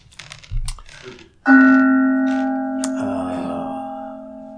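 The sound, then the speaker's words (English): A single mindfulness bell is struck once and rings out with a clear, sustained tone that slowly fades, after a few soft clicks and taps beforehand. “The mindfulness bell.”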